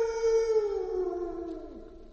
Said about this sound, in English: Now, over here, we have our wishing well. And whatever you yell down there, it echoes back. Yeah? I'll show you what I mean.